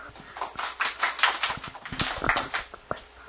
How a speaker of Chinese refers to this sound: 你手来叮当，来，讲一下来，热烈掌声。